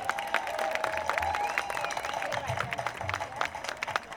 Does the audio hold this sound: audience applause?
yes